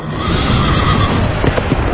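A horse neighs loudly, its whinny ringing out over a steady clatter of hooves clip-clopping, with no voices present.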